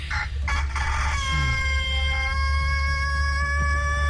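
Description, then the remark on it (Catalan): A rooster crows loudly: a few choppy opening bursts, then a long, strained, high-pitched call held for several seconds over a steady low hum. “Però aquest gall té una potència.”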